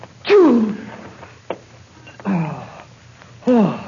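a sneeze

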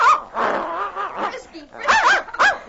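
puppy yapping

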